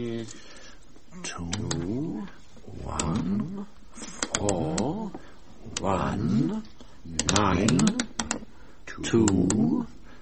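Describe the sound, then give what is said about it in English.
A combination being dialed again on the keypad of a vault door: a series of sharp button presses clicks out in irregular bursts, accompanied by loud, warbling, rising and falling voice-like tones that rise and fade between the presses. “I tell you what, I'll try dialing it again, more carefully.”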